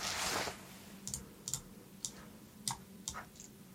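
Dice are rolled for a defence roll in a game, clattering in a short rattling burst, then settling into a handful of sharp, irregular clicks against a hard surface, moderately quiet, with no one speaking.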